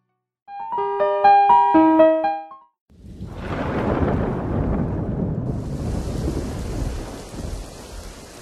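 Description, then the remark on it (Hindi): A short burst of bright musical notes, then a heavy roll of thunder rumbles up and carries on, with a steady hiss of pouring rain joining it and continuing to the end. “लगातार हो रही बारिश ने हमें अपनी फौज बढ़ाने के काफी ठिकाने दे दिए हैं।”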